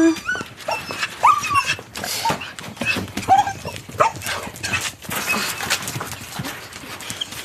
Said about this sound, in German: Und zum Abschied dieses langen Tages kommen dann endlich auch die drei Hunde zu ihrem Recht, die zusammen mit den 240 Katzen, zwei Pferden, zwei Enten, drei Hühnern und dem Hahn Lorenzo dieses wunderbare Zuhause teilen.